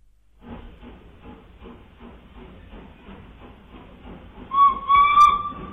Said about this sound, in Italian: il treno partì e io sentii arrivarmi fin dentro il cervello il fischio della macchina, la cui groppa nera io vedevo di lassù, distendersi alla testa di tutti i vagoni che si trascinava dietro